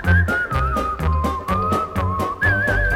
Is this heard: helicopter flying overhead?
no